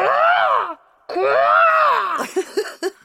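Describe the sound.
A person imitates the cry of a huge black crow in a tree during a read-aloud story, with two long, loud, drawn-out calls whose pitch rises and falls, followed by a few short, clipped vocal bursts.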